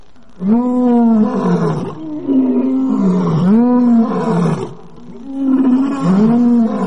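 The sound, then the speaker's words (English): A pride of lions roars in greeting: several lions roar together in loud, deep, overlapping bellows that rise and fall in repeated waves, with brief lulls between bouts and no one talking. “This is how the pride greeted us.”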